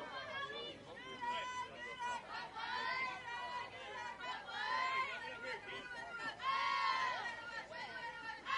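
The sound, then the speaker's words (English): Steady crowd chatter fills a ballpark during a postseason softball game between West Vigo and Northview, many overlapping voices forming a dense babble that swells louder in a few waves, with no single speaker standing out. “Crowd continues to pick up here at the ballpark.”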